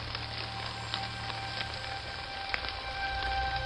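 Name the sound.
rain falling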